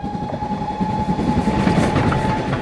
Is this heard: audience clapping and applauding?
no